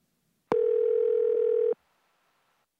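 A single steady electronic telephone tone sounds for about a second, clear and fairly loud, then cuts off into near silence before another tone starts at the very end, as one person phones another.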